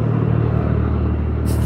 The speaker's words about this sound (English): It's a helicopter going through.